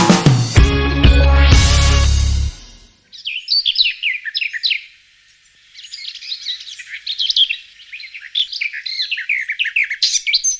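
morning birdsong

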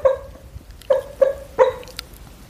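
dog whining

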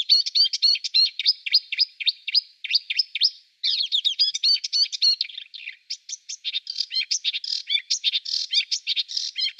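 songbird singing

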